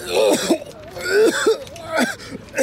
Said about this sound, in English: I suck in a breath to scream again, inhale chalky drywall dust, and start to cough convulsively.